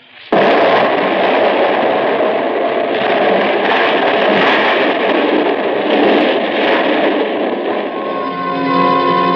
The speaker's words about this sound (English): Everything else was exactly the same, including that 12 sticks of dynamite with the fuse sputtering. And now, the dynamite was going to go off because I wasn't outside to stamp out the fuse. And as we hovered there, it did.